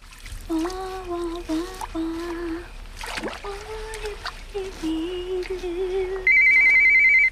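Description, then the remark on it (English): A cordless phone gives a loud, steady electronic ring near the end, after a stretch of tonal humming sounds and some watery splashing. “She frowns at the cordless phone, then picks it up.”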